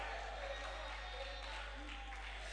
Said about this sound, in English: I want you to clap and shout.